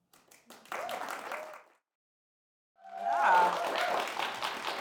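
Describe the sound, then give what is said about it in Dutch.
Audience applause in two bursts: a first round of clapping that stops abruptly, a second of silence, then a louder, fuller wave of applause with some voices mixed in. “Inderdaad, ook applaus voor jezelf.”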